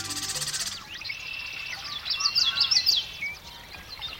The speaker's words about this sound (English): It's dawn in a western marsh in midsummer, and man, those birds are singing. The males of more than a dozen species are staking out their territories and attracting mates.